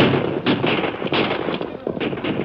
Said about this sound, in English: Now they were opposite the Wells Fargo Express office, and a dozen rifles opened up on them.